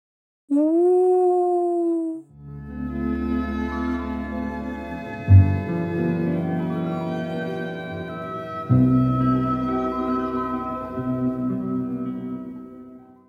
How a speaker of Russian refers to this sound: А по ночам от одиночества волчонок выл на луну.